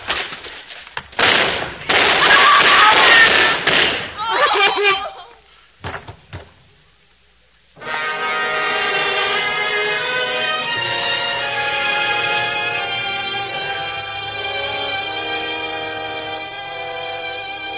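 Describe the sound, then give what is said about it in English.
A loud, rapid volley of gunshots, a shot fired into the ceiling and police guns firing, crackles for a few seconds, then stops abruptly; after a brief lull, sustained orchestral music swells in. “Faced that door, fired a shot into the ceiling, and the guns of the police chopped her down.”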